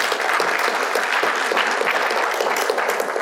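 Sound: audience clapping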